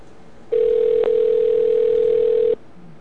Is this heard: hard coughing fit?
no